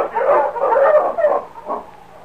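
A dog barks in a short flurry of quick barks that blur into one another before one last fainter bark, with no voices present.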